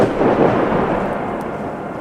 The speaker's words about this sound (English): One day, there was a storm.